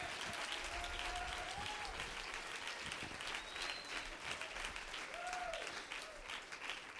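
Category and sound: crowd, audience clapping hands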